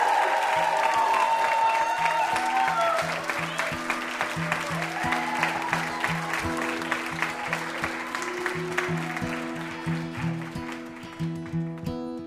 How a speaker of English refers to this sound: How about another round of applause for our VIP